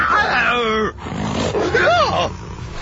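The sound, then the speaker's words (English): A wolf, the character Nimona transformed into a wolf, lets out a loud growling roar in two bursts: a long descending snarl, a brief pause, then a second rising-and-falling roar, with no talking. “Nimona transforms into a wolf.”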